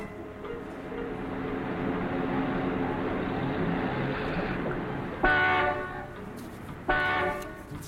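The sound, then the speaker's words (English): Car horns honk in a traffic jam at 5 o'clock in the USA, over a steady roar of idling traffic, with sustained blaring tones throughout and two sharp, louder blasts near the end, each lasting about a second. “Will you stop honking”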